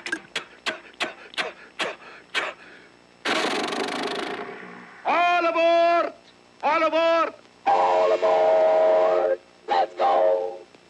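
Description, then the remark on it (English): A cartoon-style train sound effect, built on a larger scale for animated pictures with trains such as Dumbo: a quick run of rhythmic chugging puffs, a long burst of hissing steam, then several loud, wavering whistle toots, prominent with no talking. “By the time we were into Dumbo and some of the other pictures that had trains, we knew we were going to have to develop something along the larger scale than these little automobiles and so forth.”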